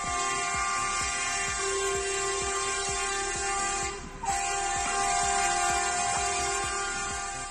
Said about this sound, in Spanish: Los conductores autónomos han hecho además sonar un claxon para denunciar la gravísima situación del sector por el precio de los carburantes.